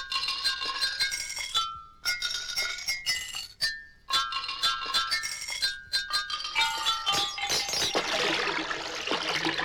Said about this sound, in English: The emulator makes any effect into a musical experience. If you want to create a sonata of snoring, a glissando of glassware,